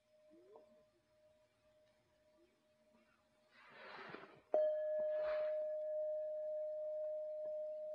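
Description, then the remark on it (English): A bell is struck once, sharply, then rings on in a long, steady, pure tone. Before it, a faint lingering tone hums beneath a couple of soft rustles. “When we're just in the hearing, there's no body, there's no ear, there's no bell, there's just the hearing.”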